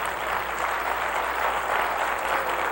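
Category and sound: crowd, audience clapping hands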